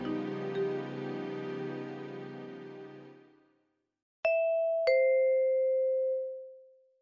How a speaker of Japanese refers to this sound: その後しばらくして自宅のインターホンが鳴ったので玄関を開けると、玄関前に年齢30歳くらいのスーツ姿の女性が立っていました。